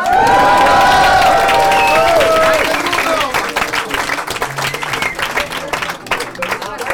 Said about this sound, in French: Donc merci, vous pouvez vous applaudir.